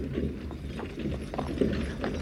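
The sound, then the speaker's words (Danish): Horse hooves clop irregularly over cobblestones while cart wheels keep up a steady, grinding rattle, a continuous moderately loud rumble with no voices, evoking horses and wheels passing through the gates at Kronborg castle in historical times. “Det lyden af hestenes hove og hjulene skramlen over brostenene.”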